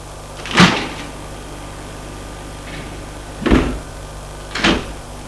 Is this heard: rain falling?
no